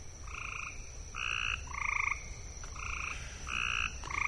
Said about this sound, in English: And so people hear these are the gray tree frogs calling, and they're up in trees, and they can call in the day or night, and you'll just look and look for that bird, and there's no bird there.